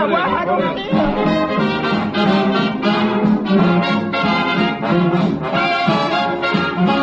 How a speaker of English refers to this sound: Big crowd.